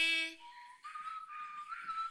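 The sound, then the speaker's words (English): Someone whistles a short tune, blowing into the microphone, the wavering notes slightly breathy and airy, preceded by a brief steady harmonic tone at the very start. “Who's doing the whistling? Me.”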